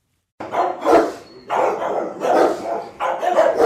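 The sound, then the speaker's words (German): A dog barks in three loud bursts, each a cluster of rough barks about a second apart, with no one speaking. “Und Daniela Siebert hat sich das mal angesehen, aber das erste Wort dazu hat natürlich ein Hund.”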